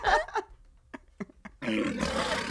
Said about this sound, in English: What could that have been? You guess. I mean, I don't know. I thought it was a burp and then it was a lion.